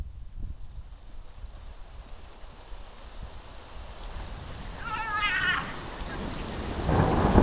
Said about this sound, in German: Junge, es kann doch nicht sein. Es regnet schon wieder. Wie verrückt, Alter.